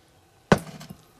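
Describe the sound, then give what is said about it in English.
A single sharp clink of glasses of tonic water touching in a toast, fairly loud, followed by a short ringing decay that fades within half a second. No one speaks. “Well, cheers to having a great episode today.”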